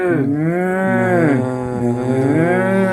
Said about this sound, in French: Son bruit préféré, c'est le meuglement des vaches quand on les sort de l'étable.